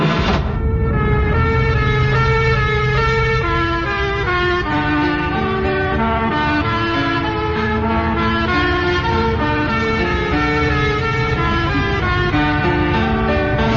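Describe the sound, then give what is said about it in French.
A loud police car siren plays a stepped, tune-like pattern of shifting tones, sounding continuously for the whole stretch over a low road rumble, with no voices. “Ouvrez fenêtre et écoutez sirène de voiture de police inspirée d'une de mes compositions.”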